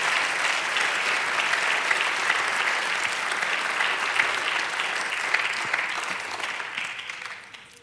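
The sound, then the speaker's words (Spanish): An audience bursts into sustained applause for the Lord, a dense, steady wash of clapping that holds strong for several seconds before tapering off at the end, with no voices over it. “Dale aplauso al Señor.”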